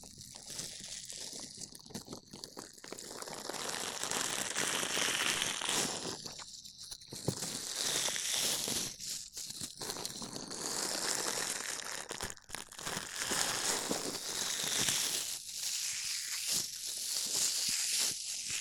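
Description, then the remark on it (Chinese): A dish sponge rubs and scrubs against a microphone, making steady, loud, scratchy rustling with crinkly, crunchy texture and brief pauses between strokes. No one speaks. “放心啦，洗碗棉很舒服的。拿给你试试，准备好了吗？”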